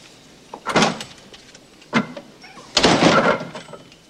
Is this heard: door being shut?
yes